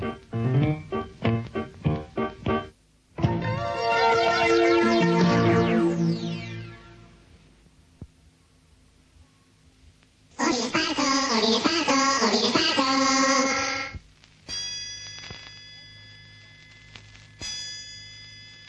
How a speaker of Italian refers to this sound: Colpi di gong segneranno l'inizio del secondo tempo.